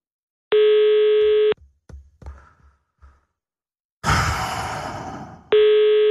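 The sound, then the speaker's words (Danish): A telephone call to a local UC shop rings unanswered, two steady electronic ring tones separated by a pause filled with faint breathing, small knocks and a burst of breathy noise, fairly loud. “Lige nu er alle mistænkt, og jeg vil sige, at det er ikke særlig heldigt for UC, at man vælger ikke at tage telefonen, når man ringer på det her.”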